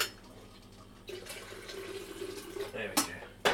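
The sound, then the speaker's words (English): Water runs from a tap into a kettle for making coffee, a steady rushing stream that starts after a brief pause, with a couple of sharp knocks near the end. “I've got to get the water in the kettle.”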